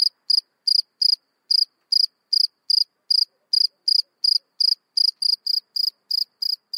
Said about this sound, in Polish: Jak brzmią w takim razie świerszcze? Nie cykają, lecz ćwierkają. Można powiedzieć świerszczą.